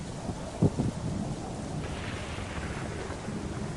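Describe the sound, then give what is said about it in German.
Thunder rumbles low and steady with a short louder crack near the start, over a continuous wash of rain and wind noise in cold, windy, rainy weather. No one speaks. “Es ist windig, es ist kalt, es regnet. Es donnert.”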